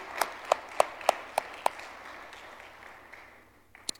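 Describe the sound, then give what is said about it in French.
Brief applause: about six sharp, evenly spaced claps ring out over a soft background hiss, then fade into low noise, with one last isolated clap at the very end. The audience applauds the men of Moz, who helped from 8:30 on a Sunday morning. “Good job les boys, on peut vous applaudir.”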